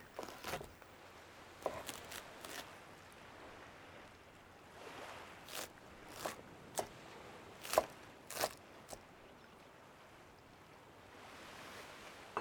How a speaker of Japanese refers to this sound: カッティングボードの上にたっぷりのお野菜を挟んだサンドイッチを置きまして、これを包丁で食べやすい大きさに切り分けます。